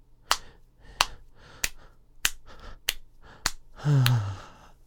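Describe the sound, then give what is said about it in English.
About seven sharp, crisp skin slaps from pounding during sex, with the buttocks held slightly open, land in a steady rhythm, roughly two per second. A short voiced moan with a falling pitch follows near the end. “That's the sound the pounding makes when I hold your butt cheeks open a bit.”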